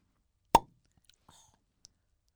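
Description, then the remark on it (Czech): A sparkling wine cork pops once, a sharp, loud burst that dies away quickly, followed by a few faint little clicks and rustles. “Otvíráme bublinky.”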